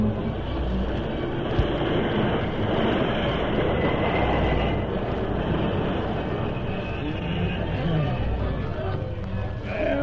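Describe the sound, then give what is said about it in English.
A train rumbles loudly and continuously on the rails as it brakes toward a stop, a dense mechanical roar and clatter filling the whole stretch. “stop the train. Hurry it up.”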